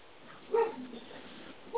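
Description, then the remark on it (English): A Doberman puppy gives a short yelp and soft whimpering whines, followed near the end by another brief yip, not very loud, with no talking. “Here's some puppies in the background.”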